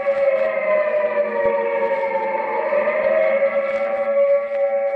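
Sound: air raid siren wailing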